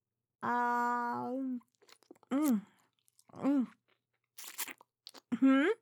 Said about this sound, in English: The slurping? What? No, it's just that I have no other time today to eat, so I'm trying to gobble down my lunch at the same time as work with all these gentlemen.